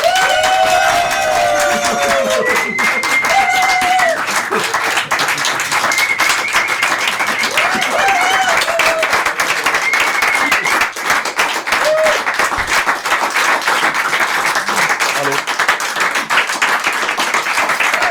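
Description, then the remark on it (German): Sustained applause from an audience greeting Master Sommelier Henrik Thoma, a dense steady clatter of many hands clapping, with cheering and whoops rising above it throughout. “Dass Sie klatschen, ist ja super.”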